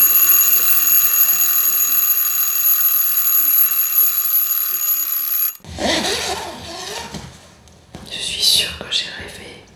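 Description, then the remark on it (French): An alarm clock rings at 8:30 in the morning with a steady, shrill, high-pitched electronic tone for about five seconds, then cuts off abruptly as people begin talking. “Oh ben le réveil vient de sonner alors.”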